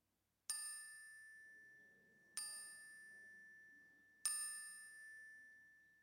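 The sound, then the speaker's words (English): A clear chime rings three times at even intervals during a prayer, each strike bright and metallic with a long, sustained ring that slowly fades beneath the next, heard alone. “Call them to your lips and speak them aloud as the chime rings so that we can hold them with you.”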